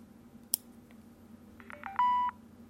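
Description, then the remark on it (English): A sharp click as a Bluetooth keyboard is turned on, then three short electronic beeps rising in pitch and one longer, steady high beep showing it is in pairing mode, clear against a low background hum. No one speaks. “you're going to hear three ascending beeps. It's like a doo-doo-doo, and then you'll hear another high-pitched longer beep that indicates that it's in pairing mode.”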